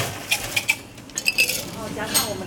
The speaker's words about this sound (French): Il va ajouter des glaçons.